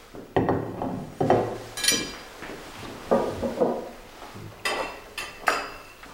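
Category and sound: household object, dishes clinking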